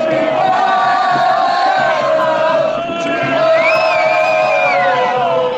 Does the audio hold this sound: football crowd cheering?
yes